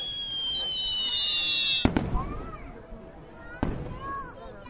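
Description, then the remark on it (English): Fireworks explode in two sharp, loud booms a couple of seconds apart, over a steady crackling background with high whistling streaks and faint voices. “Fire and loud booming sounds surround you.”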